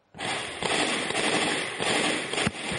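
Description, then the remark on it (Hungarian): A dense, rapid series of gunshots crackles almost without pause in Luhansk, eastern Ukraine, on a Wednesday morning, the sharp reports blurring into a continuous rattle at a steady, fairly loud level, with no voices. “Lövések sorozatát lehetett hallani szerda reggel a kelet-ukrajnai Luhanszkban.”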